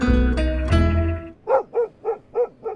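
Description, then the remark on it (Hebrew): A golden-furred dog barks five times in a steady, evenly spaced rhythm, loud, after a brief swell of sustained musical tones at the start. The dog races through city streets with a boy running after it, the two joined by a long rope, in David Grossman's novel Someone to Run With. “כלב דוהר ברחובות, ואחריו רץ נער.”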